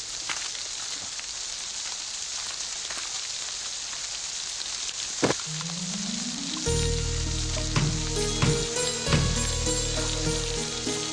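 Steady, dense rain hisses throughout, continuous. Partway through a low droning rumble joins in beneath it, with a few sharp knocks scattered on top.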